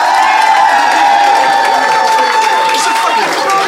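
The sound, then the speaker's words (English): A live Phoenix audience of some 120 people roars with cheers, whoops and shouting, applauding to vote, a dense, steady wall of noise that carries on without a break for the whole few seconds, with applause blended into the din. “won the day, applaud now.”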